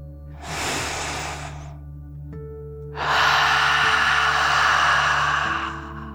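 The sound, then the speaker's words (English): A deep breath drawn in through the nose, a brief pause, then a longer, louder, forceful exhale through the mouth, airy over a faint steady hum; a relaxation breathing exercise. “Breathe in through your nose, filling up your lungs, and then out through your mouth, pretending you are breathing fire, like a dragon.”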